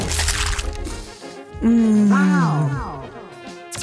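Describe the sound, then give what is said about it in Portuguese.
Crisp, crackly crunching of a Cheetos Crunch cheese puff snack in a quick run of bursts, followed by a loud, sustained voice-like hum that slides downward in pitch. “Esse som irritantemente irresistível é do novo Cheetos Crunch.”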